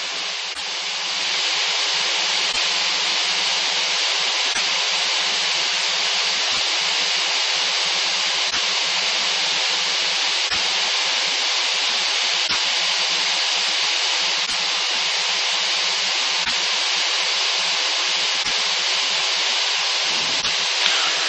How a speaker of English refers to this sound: Yeah, no, I turned off the squelch. So, the static you're hearing is not because of the squelch, but...